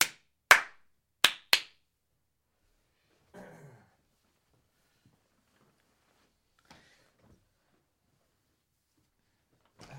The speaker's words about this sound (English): Give it some claps.